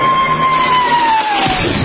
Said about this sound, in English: Okay, 25,000 cheering extras.